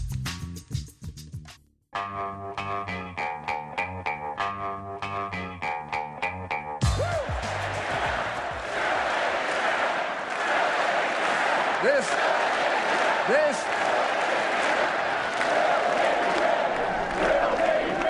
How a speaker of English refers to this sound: No, they're not chanting USA, USA. If you couldn't make it out, that, of course, is a crowd of McCain-Palin supporters joining the Republican ticket's rallying cry for expanded domestic oil production. They were chanting, drill, baby, drill.